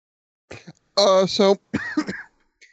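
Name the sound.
coughing and throat clearing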